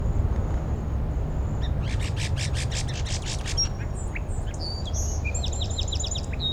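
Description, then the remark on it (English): A song sparrow sings a rapid, buzzy trill of about eight notes, followed by sharp high whistles and a quick series of chirps, over a steady low rumble. “Song Sparrow right behind 5-7.”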